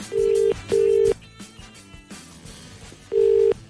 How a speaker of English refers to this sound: It's ringing. Let me call my nuclear fusion guy.